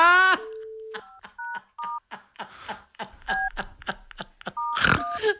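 A phone number is keyed in: a quick, slightly uneven run of about a dozen short two-tone keypad beeps, clear and close, following a brief steady tone, with some rustling noise between presses.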